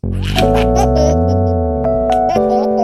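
A baby laughs loudly for a few seconds, drawn-out squealing giggles with short breathy bursts, and no one else talking.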